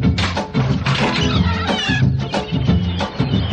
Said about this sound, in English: Nurse, get those seagulls out of here.